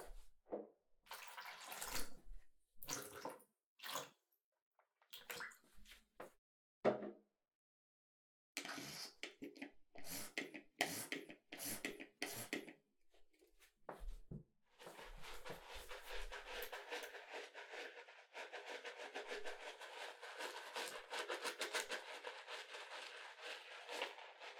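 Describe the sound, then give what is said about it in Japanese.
Wet splashing and squelching as water is mixed into a fine lather of pore-tightening ear foam. The sound starts in short irregular bursts, then settles into a steady, continuous frothy swishing with no talking. “泡作るんで待っててください。”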